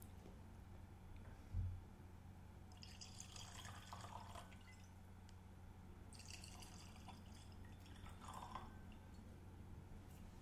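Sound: drink poured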